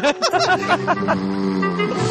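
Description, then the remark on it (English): A voice imitates an airplane's jet engine with a loud, buzzing, roaring drone. It starts in short wavering bursts, then settles into a steady, sustained whoosh. “You need an airplane noise to go along with it.”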